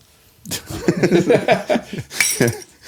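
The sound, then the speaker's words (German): Ceramic coffee cups clink together in a toast, a few bright knocks and rattles over about two seconds, with soft voices or chuckling mixed in. “Klingt nach Kaffeetasse.”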